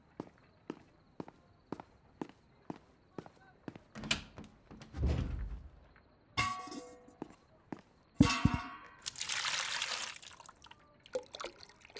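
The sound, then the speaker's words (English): Steady footsteps cross a room, followed by a few clinks and clanks of glassware, then a brief rush of water being poured into a glass, fairly loud. “Right, your water. Let me go get that for you.”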